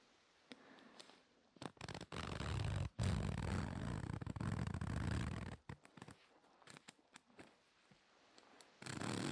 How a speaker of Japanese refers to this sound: ちなみに今これはただファスナーを上下させてる音なんですけど